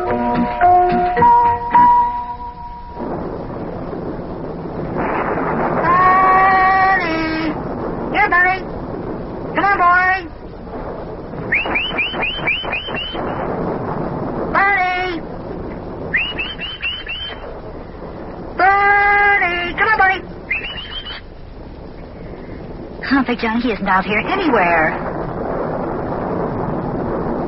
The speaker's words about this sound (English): Well, I tell you, Bunny's so afraid of storms with the wind blowing the way it is